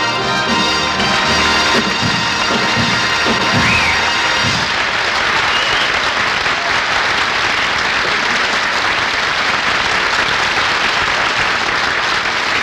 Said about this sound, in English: I could even hear the applause.